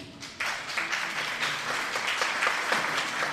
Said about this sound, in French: Vous allez applaudir